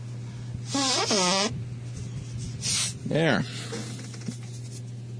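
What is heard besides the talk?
blowing nose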